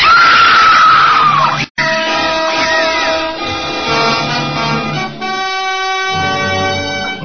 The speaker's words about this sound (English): Of course, we all heard the screams